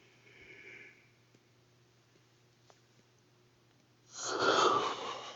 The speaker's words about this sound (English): I suppose it's not very sexy to be yawning in your ear so much, but I am very, very close to being asleep.